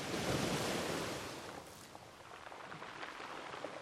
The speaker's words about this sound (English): With a notebook in hand, Stafford is sitting by the ocean, busy calculating the movements of the waves as if trying to decipher some hidden code.